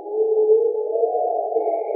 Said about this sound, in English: I was very tired, and I had my headphones on and my microphone outside the tent because I was recording the nighttime sounds. I heard the hyenas yowling.